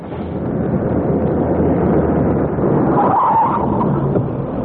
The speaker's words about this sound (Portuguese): Aí vem um ônibus. É, sorte mesmo. É. Vai para a cidade e parece vazio.